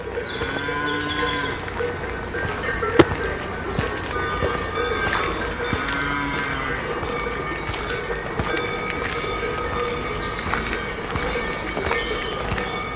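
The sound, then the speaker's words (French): Herd bells on herds climbing a forest track in the Pyrenees mountains clank and ring in a steady, overlapping jangle, with occasional low lowing of cattle and faint, high bird chirps scattered above. No one speaks. “Les sonnailles embellissent avec le chant discret des oiseaux le paysage montagnard.”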